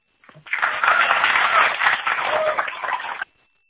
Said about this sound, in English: NA1SS, this is the Wilkeson State School. Please stand by one moment and we'll give you a loud round of applause.